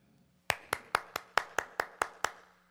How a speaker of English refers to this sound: That's beneath God. I don't mean to offend anybody. I think your hearts are pure when you clap. But that falls so short of God.